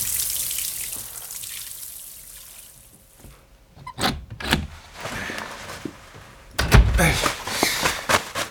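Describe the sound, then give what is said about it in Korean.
Shower water hisses steadily, fading down before splashing back louder, with a few knocks and thuds mixed in, as if someone is moving under the spray. No one speaks. “샤워를 해도 시원하지가 않네.”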